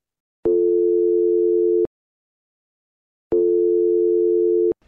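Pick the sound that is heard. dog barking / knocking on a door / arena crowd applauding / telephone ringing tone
telephone ringing tone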